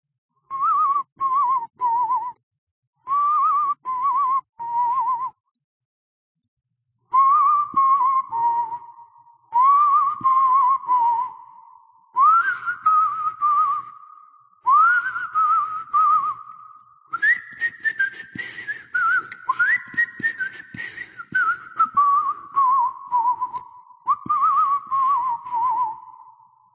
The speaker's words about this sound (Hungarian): A férfi a lépcsőfordulóhoz érve halkan fütyörészni kezdett. A három vakegér dallamát fütyülte.